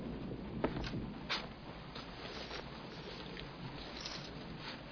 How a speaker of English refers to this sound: Be careful. It's turning into a downpour.